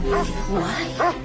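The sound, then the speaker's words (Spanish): A dog lets out three quick barks with a whining, whimpering edge, spaced evenly in a short burst against a faint background murmur. “¿No has visto el perro?”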